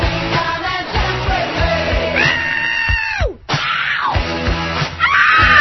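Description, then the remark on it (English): Several loud screams wail over a steady thumping beat, one long shriek sliding downward before a brief cut to silence, then another rising scream at the end. “Screaming go.”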